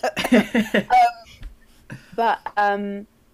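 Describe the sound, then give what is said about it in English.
A quick run of short, rough coughs comes first, followed after a pause by a couple of louder, voiced throat-clearing bursts, with no speech. “Bear with me, my body's like, no, don't say it, I'm going to give you a coughing...”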